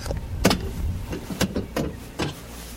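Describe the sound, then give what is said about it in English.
The door of a small air quality monitoring station trailer on Badger Peak, Northern Cheyenne Reservation, is opened: a handful of sharp metallic clicks and clunks from the latch and handle, spaced irregularly over a few seconds with a low background hum and no voices. “opens the door to one of the tribe's three air quality monitoring stations.”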